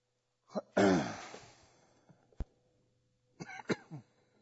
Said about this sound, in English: If I'm coughing this morning, it is not coronavirus. It is dust from Africa.